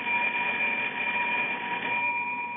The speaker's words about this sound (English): Right under the button here, it says, ring in case of emergency. But nothing happens. I've been ringing this bell for the last hour. Nothing happens. Nobody's home, I know that, but I don't know what else to do except ring this bell.